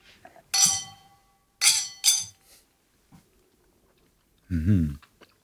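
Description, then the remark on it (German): Glasses of an alcoholic cold-brew coffee drink, topped with foam and coffee beans, clink together in a toast: three bright, ringing chimes, one then a quick pair, followed by quiet sips and a brief low vocal murmur. “Hoch die Gläser, oder?”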